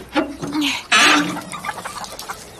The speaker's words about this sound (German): Hallo, liebe Hühner. Oh, keine Panik. Wir wollen nur schnell mal gucken, wie ihr das macht mit den Eiern. Kein Grund, sich aufzuregen.